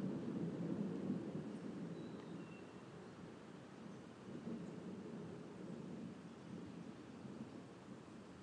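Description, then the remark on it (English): Low, rolling thunder rumbles continuously through a thunderstorm, swelling and fading in broad waves over a steady wash of rain-like noise, strong, with no voices. “We get lots of crazy thunder out this way, so it's fun times.”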